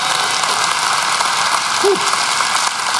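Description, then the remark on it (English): An audience gives Jesus a hand clap: dense overlapping hand claps blend into a steady, loud hiss that holds at an even level for about three seconds with no voices. “Give Jesus a hand clap.”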